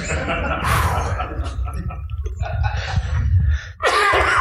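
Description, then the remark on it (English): A muffled, stifled cough from a person trying not to cough, several choked bursts spread over a few seconds, the last one louder and harsher. “Sorry, I was trying not to cough.”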